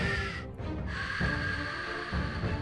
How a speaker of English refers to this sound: And right now, I hear an alarm. Can't very well do a show if there's an alarm going off.